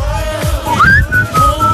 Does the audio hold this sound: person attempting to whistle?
yes